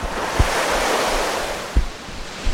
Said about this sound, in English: Taste that salt air. The sea. I see the sea.